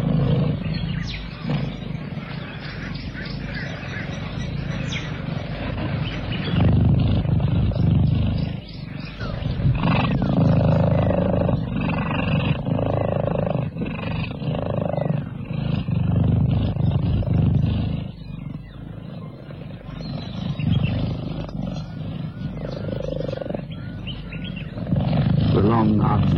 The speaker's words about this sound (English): Beneath a tree on the water's edge, a family of cheetahs purr contentedly.